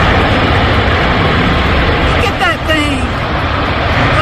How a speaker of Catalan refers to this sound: Aquest era el moment que el tornado passava per Nashville, una de les ciutats més afectades.